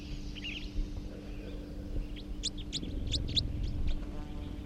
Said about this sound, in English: Here comes that third wild bird. And it's a red male. Recording that third wild male, third wild bird, who is a male, type 4.